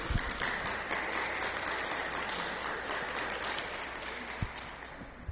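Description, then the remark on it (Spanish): An audience applauds steadily for about five seconds, a dense, even wash of many hands clapping at moderate volume with no one speaking. “Un aplauso, por favor.”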